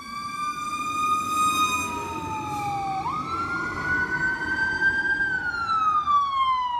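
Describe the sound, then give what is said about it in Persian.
A fire engine siren wails continuously, its pitch sweeping slowly up and down over a steady rumble of engine and road noise, loud throughout, as two fire engines arrive at a burning workshop. “پنج-شش دقیقه طول نکشید که دو خودروی آتش نشانی به محل حادثه میرسن.”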